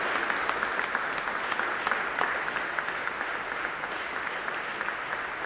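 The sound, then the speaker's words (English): A crowd of some 300 people in the sweltering hot sanctuary of Christ Church Cathedral applauds speakers denouncing the gambling industry, steadily for several seconds, a dense, even wash of many hands clapping at once with no voices standing out above it. “A crowd of some 300 people sat in the sweltering hot sanctuary of Christ Church Cathedral and applauded as speakers denounced what they said were the false promises of the gambling industry.”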